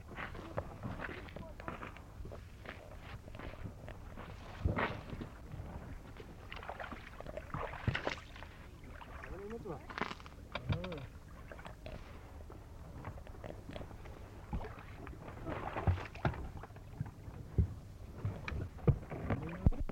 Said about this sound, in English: The canoes were equipped with an outboard motor each. They came zooming along the flat, smooth water to collect the gasoline and the oil to be used in the Peterhead boat, which was to take us out to the seal hunt.